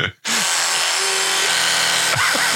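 A loud electric toothbrush buzzes steadily after a brief silence, its tone wobbling and shifting as the mouth opens and closes around it; no talking.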